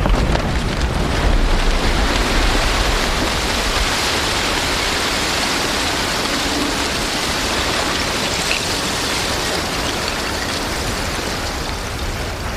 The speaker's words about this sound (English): its final collapse, and then a whole range of baseball, softball-sized pieces of ice spraying all around me